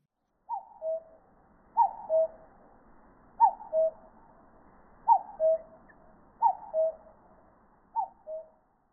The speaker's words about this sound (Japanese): カッコウです。